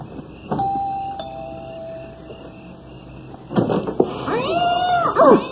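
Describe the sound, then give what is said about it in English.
A sustained ringing tone fades out, then several cats at the home of James and Pamela Mason break into loud, overlapping meows and yowls, rising and falling in pitch over the last couple of seconds, with no talking. “For heaven's sake, don't you like cats?”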